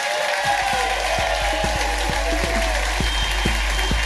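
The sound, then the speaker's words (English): An audience rises and claps steadily for Richard Herring, a dense patter of many hands with scattered sharper claps standing out and some faint crowd noise mixed in, sustained at an even level throughout. “please give a massive rise and applause.”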